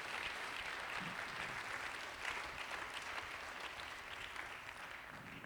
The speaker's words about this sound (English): Come on, why don't you clap your hands for that all over this house?